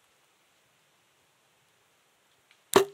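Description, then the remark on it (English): After near silence, an arrow is loosed from a bow: one sharp snap of the string with a brief twanging ring that fades quickly. A faint click comes just before it. “There we go, let the arrow fly.”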